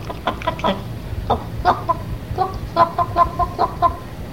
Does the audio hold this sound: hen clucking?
yes